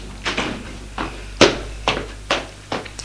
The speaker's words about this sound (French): Frappe à la porte. Entrez. C'est domestique qui va faire le nettoyage.